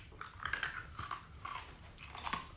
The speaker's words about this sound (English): was drinking a glass of wine and he took ice and was crunching it. Just like this. I know you hate it.